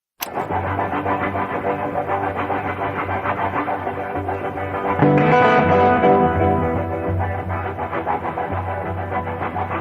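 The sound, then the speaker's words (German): A heavily distorted electric guitar, played live and improvised as program music to a finished film, imitates a rumbling train with a dense, droning roar that surges louder around the middle and then chugs steadily on, with no voices. “hier einen Zug nachmacht und wie eben die Autogeräusche nachgemacht werden”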